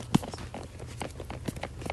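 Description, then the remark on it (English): A laptop's bottom case, apparently not attached to something inside the notebook, clicks several times as the notebook is picked up to be put in a bag: short, sharp plastic ticks at irregular intervals, one louder than the rest, over a low handling rumble with no speech. “So it makes this clicking noise, which freaks me out”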